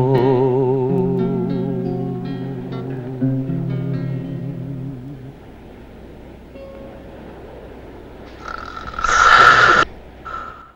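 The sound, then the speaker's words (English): A wavering sung melody with vibrato fades out, then after a stretch of low murmur a single loud, rasping snore of a drunken man sleeping on chairs bursts out for about a second. “Hearing the snoring, Bin tiptoes round the corner to where the drunken man is sleeping on the chairs.”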